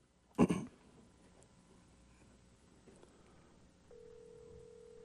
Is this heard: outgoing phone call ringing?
yes